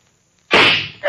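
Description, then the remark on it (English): After near silence, a single loud gunshot sound effect bursts in sharply, its harsh noisy blast trailing off over half a second before another sudden burst begins right at the end. It is from the radio drama The City of the Dead: a trap fires when a supposed bell is pulled, and the Mayor is shot. “He's shot.”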